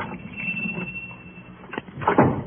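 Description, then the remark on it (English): The door of a pawn shop in the oldest part of the city is pushed open at about 10 o'clock on a sultry summer evening as a small bell above it rings out with a thin, sustained tone, followed by a couple of thuds and a rattle as the door swings. “On a sudden impulse, he pushes open the door.”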